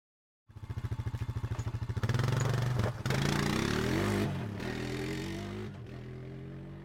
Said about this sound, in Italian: Ci riportò alla realtà lo scoppiettio di una motoretta che si inoltrava tra le viuzze del paese.